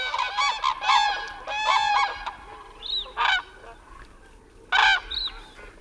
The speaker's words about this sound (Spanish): Un sonido más habitual en torno a las grullas es el guirigay que tienen en los dormideros.